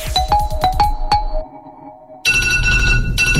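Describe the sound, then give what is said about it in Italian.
An alarm clock bell rings in a quick run of bright, metallic strikes on the wake-up show of Italian radio station Controradio, then stops. After a short lull, a loud, sustained burst of tonal sound takes over. “Come diavolo si ferma questa sveglia, mannaggia la”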